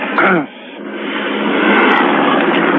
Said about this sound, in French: L'hélicoptère continue à passer au-dessus. Oh, un petit coup de phare sur mon appart.